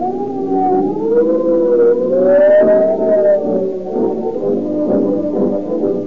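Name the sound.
police car siren wailing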